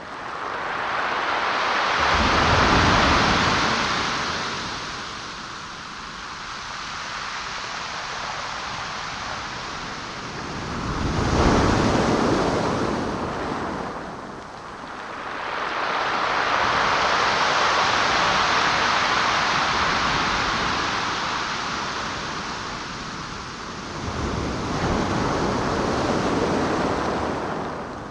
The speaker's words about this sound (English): Finally, the river meets the sea. The Pacific Ocean. Delivering gravel and pebbles. The waves, like sandpaper, further reshaping the land.